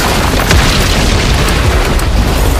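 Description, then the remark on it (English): An industrial dryer catastrophically explodes with a loud, deep boom that swells into a sustained, rumbling roar filling the whole stretch, heavy, with no voices. “The dryer catastrophically exploded.”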